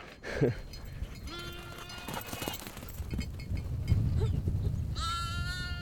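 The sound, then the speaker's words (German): Several sheep bleat from a herd in which one family of sheep wear bells, their harmonic calls rising one after another over rustling and shuffling hooves, with a loud bleat near the end. “Wie gesagt, also ich brauche die wegen dem Nebel, die Glocken, aber das sind einfach besondere Schafe.”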